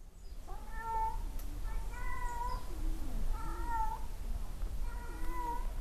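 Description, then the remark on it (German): A cat meows four times in a steady series, each call long and drawn out, clear over a low, constant background rumble, as it roams the entrance area of a children's centre and hides under a swing. “Eine Katze streunt im Eingangsbereich Petruschkas umher, versteckt sich unter der Schaukel.”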